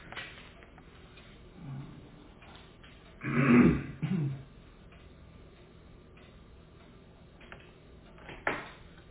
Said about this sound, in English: What's the matter? No. Oh, okay. I burped.